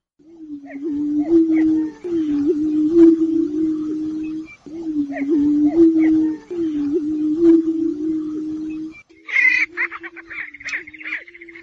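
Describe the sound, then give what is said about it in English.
Prairie chickens calling and dancing on a lek in southern Iowa: a chorus of low, hollow booming moans in repeated two-second swells, overlaid with scattered cackles and whoops, ending in a burst of higher, nasal cackling. “Today's phenology are the prairie chickens of southern Iowa.”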